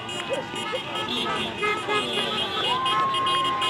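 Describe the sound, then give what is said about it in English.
Car horns toot from passing traffic amid steady street noise, with a sustained honk near the end, while a crowd chatters indistinctly in the background; passing drivers honk at celebrating voters in Freedom Park, Atlanta. “The mood was jubilant in Freedom Park as elated Atlanta area voters scattered themselves around the lawn wearing masks and Biden-Harris t-shirts while passing drivers honked their horns.”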